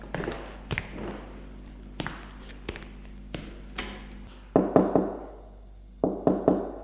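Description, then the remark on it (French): A mother knocks on the door of her son's bedroom: scattered soft taps, then two loud bursts of three or four quick, hollow raps. No one speaks. “On a frappé à la porte.”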